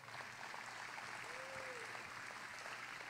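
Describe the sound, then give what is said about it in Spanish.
A crowd applauds the video team steadily throughout, a dense, continuous patter of many hands clapping, with a faint whistle-like tone rising briefly in the middle. “Fuerte aplauso para nuestro equipo de video.”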